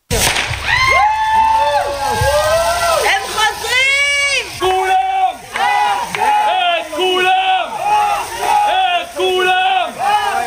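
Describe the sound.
A loud crowd celebrates in the street in Israel after the announcement of a ceasefire and the coming release of hostages, many voices cheering, shouting and wailing in rising and falling tones, continuous throughout with a few sharp pops mixed in.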